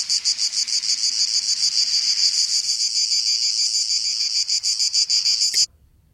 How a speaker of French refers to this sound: Cigale en Provence, 1967.